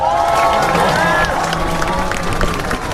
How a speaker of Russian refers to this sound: Во время последующего митинга на площади Федерации было объявлено, что премьер-министр Австралии Скотт Моррисон принял решение помочь Украине оружием в войне против России. И это сообщение было встречено аплодисментами.